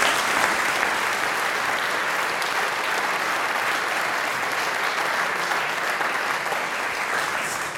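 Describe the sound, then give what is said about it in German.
Sustained audience applause for the brass band group, a dense, even wash of many hands clapping at steady loudness for several seconds, with no voices standing out. “Und das hört man, die …, das ist euer Applaus.”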